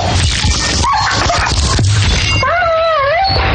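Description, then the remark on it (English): A dying dog whimpers in high, wavering whines: a brief cry early on, then a longer drawn-out one near the end, over a noisy, rough background. “I have, like, audio of how he died. Oh! Actually, I'll just play that for the people. This is how Roxy's dog died”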